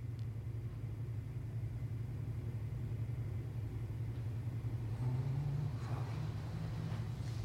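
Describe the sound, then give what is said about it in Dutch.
A steady, low engine rumble like the inside of an airplane cabin, a constant droning hum that swells slightly toward the end, with no voices, from the opening of Een Nieuwe Wind. “Dat lijkt op een raam van een vliegtuig en dat geluid is ook zo.”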